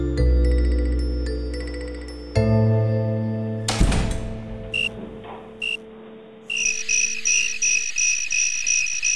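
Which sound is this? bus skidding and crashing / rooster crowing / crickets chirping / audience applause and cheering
crickets chirping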